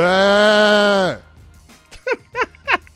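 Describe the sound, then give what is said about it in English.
A person gives one loud, drawn-out sheep-like "baaa," a steady nasal bleat lasting about a second before it drops off, followed by a few quick spoken syllables. “You're a sheep?”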